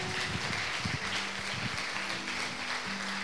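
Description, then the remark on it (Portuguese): A church audience applauds the Lord during a thanksgiving service, clapping steadily and densely for a few seconds in a constant wash of hand claps, with low sustained keyboard-like tones humming underneath. “Isso, aplauda ao Senhor.”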